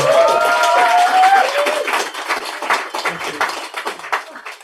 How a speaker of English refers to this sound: So can we please big round of applause